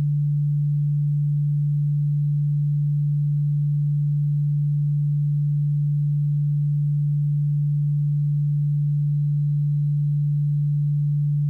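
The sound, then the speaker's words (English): A steady, pure low-pitched sine tone hums continuously at an even volume for about eleven seconds, with no voices or other sounds alongside it. “When these frequencies are played separately, you hear 2 distinct and solid tones.”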